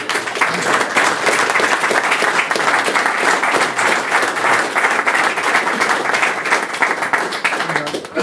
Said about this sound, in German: Ja, also, damit gebe ich das Wort weiter an Norbert Rosing und ich bitte mit einem Applaus ihn herzlich zu begrüßen.